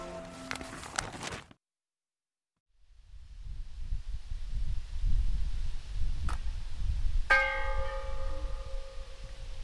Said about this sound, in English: That ringing sound is a bell on top of a brick chimney, and there's 26 bells and 26 chimneys with the outline of a house spread across a beautiful, gorgeous field.